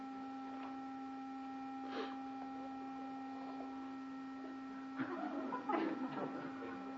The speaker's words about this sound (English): Is that an alarm clock?